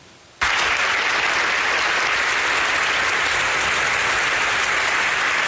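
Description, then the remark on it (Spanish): Sustained, dense applause from a large audience in the Teatro Colón in Bogotá on 24 November 2016, when the government and the FARC signed the final peace agreement, starting abruptly after a brief quiet moment and continuing loud and steady throughout. “Estos fueron los aplausos que se escucharon en el Teatro Colón el pasado 24 de noviembre de 2016, cuando el gobierno y la FARC firmaron el acuerdo definitivo de paz”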